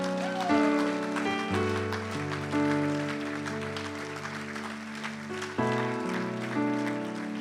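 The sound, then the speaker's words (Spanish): An audience gives themselves a round of applause, clapping in a dense, steady patter that runs the whole time, mixed with sustained keyboard or organ chords that shift pitch every second or two. “¡Dese un aplauso a usted mismo!”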